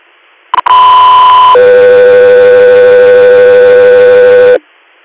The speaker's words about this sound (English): Echo 3 Air, stand by for tones.